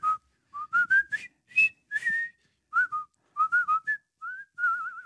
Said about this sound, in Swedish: Bron över floden Kwai. Japp. Ja. Heter det Kwai eller Kwai? Kwai. Vad roligt att du sa det, för igår visslade jag på den här låten.